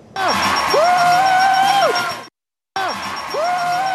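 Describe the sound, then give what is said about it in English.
Loud audience cheering and applause on the game show The Price is Right, with a contestant's excited whoops and yells rising above the roar as he waves his arms, an excitement in which he dislocated his shoulder. The crowd noise cuts off abruptly for a moment, then bursts back in. “I mean, I'd be cheering too.”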